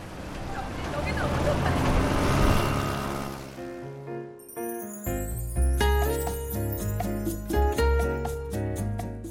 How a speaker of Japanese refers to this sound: 橋の稼働イベントが終わると車の通行を再開するという案内放送が流れてきます。車よりも先にエンジンをかけるのはバイク。まるでレース直前の選手たちのような雰囲気でした。